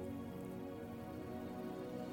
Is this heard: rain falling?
yes